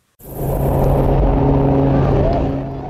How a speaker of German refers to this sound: Die rund 100 Schaulustigen jubelten, als das erste voll elektrisch angetriebene Verkehrsflugzeug der Welt im Dezember vergangenen Jahres vom Flughafen im kanadischen Vancouver abhob.